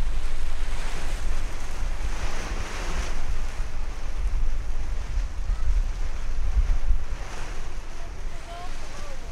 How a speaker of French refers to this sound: Là, c'est un vent de quoi là? Je sais même pas, c'est un vent de quoi ça? Un vent d'est, nord-est? Vent d'est là!